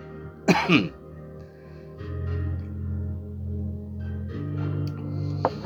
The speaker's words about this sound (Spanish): Así se me pasó la tos.